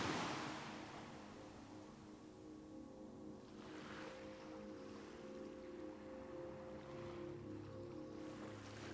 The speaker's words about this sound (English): The gentle sound of the waves and the cool breeze create a peaceful, relaxing atmosphere as you cross the sandy shore and head towards your cabin.